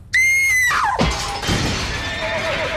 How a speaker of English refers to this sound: The window implodes.